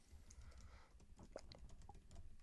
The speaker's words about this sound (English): The sound of typing.